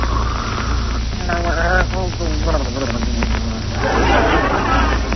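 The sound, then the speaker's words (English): Loud, theatrical snoring of a sleeping man: raspy, wavering snorts followed by a long hissing, wheezy exhale, all over a steady low hum with no clear words. “Oh, listen to those beautiful pear-shaped snores.”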